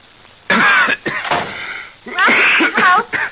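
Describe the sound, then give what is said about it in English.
A series of harsh, wheezy coughs bursts out in several loud fits, with short pauses between them and a raspy, strained edge to each. “It was a cough.”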